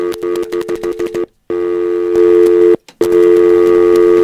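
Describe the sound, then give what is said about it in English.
A rapid run of short electronic telephone beeps, then a steady telephone line tone that cuts out briefly and resumes, loud and clear with no voices. “Let me get a tone.”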